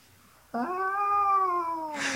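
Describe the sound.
A single voice imitates an air raid siren: a loud, sustained wail that swells upward in pitch, holds steady for over a second, then sags slightly before a short burst of breathy noise.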